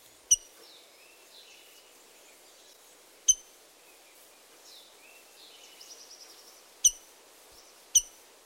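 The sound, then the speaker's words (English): A rose-breasted grosbeak gives four sharp, metallic chink calls, spaced irregularly, with soft birdsong twittering faintly in the background between them. “And finally, the rose-breasted grosbeak's metallic chink.”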